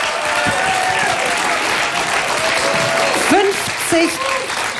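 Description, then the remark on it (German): A huge stadium crowd of 55,000 people roars and cheers, throwing their hats into the air, in a steady, dense wash of noise, with scattered clapping and a few rising whoops and shouts breaking through near the end. “55.000 Menschen jubeln uns zu, schmeißen ihre Hüte in die Luft.”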